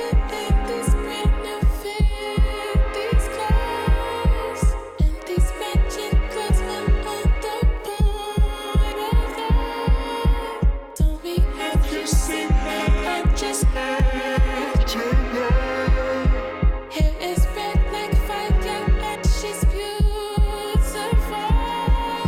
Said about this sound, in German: Dazu kommt eine Elektro-Bass-Drum mit 4 on the Floor